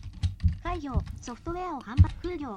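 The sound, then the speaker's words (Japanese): A handful of crisp computer keyboard clicks, the NVDA screen reader key plus the down arrow being pressed, spaced irregularly beneath a rapid, continuous talking voice. “NVDA キープラス下矢印です。”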